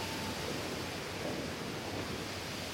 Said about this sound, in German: Und kühle deine Hände an diesem kleinen, ruhigen, versteckten Ort. Mitten im Wald. Fast ein bisschen verwunschen, so allein an diesem Wasserfall zwischen den hohen Bäumen und im Schatten der dichten Blätter.